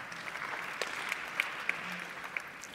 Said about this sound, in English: Scattered applause.